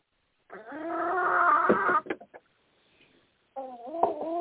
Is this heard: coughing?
no